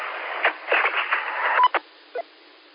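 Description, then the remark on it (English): An EchoLink log-in coming over a narrow, tinny radio channel: a hiss of static bursts, a short steady beep, then a couple of brief chirps before the transmission drops out. “This is coming from Echo Link now. Did you hear me log in?”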